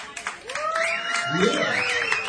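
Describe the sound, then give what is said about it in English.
An audience claps steadily for the band for a couple of seconds, a dense, even wash of applause with whoops and cheering voices rising and falling over it. “How about we hear for the band one more time?”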